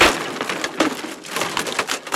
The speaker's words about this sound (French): Un bruit de chaise cassée.